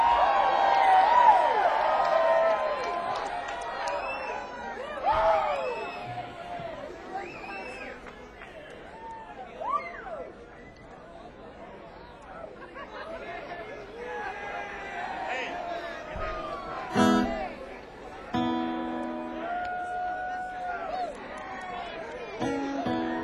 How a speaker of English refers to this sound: I just had that realization that you can tell the how cool a town is by how loud they cheer when you say …'s name.